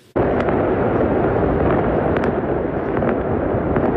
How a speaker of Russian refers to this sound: В секторе Газа праздничный фейерверк. Жители отмечают подписание соглашения о прекращении огня с Израилем.